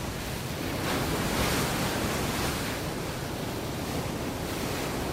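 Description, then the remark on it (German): Steady ocean surf rushes continuously, mixed with gusting wind noise across the microphone, swelling slightly in the first seconds and then holding a constant broad roar with no voices. “die Sonne auf meiner Haut, der Wind auf meinem Gesicht, die feuchte, salzige Luft auf meinen Händen.”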